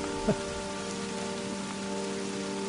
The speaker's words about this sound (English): Oh, wow. Is this rain? That's rain. Something must have been here. It was raining. And they recorded the rain and left it here for us. It's not raining, though, right now.